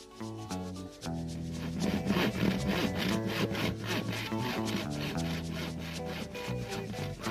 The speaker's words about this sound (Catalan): Porteu una serra. De la bola en farem tres trossos, un per cada un de vosaltres.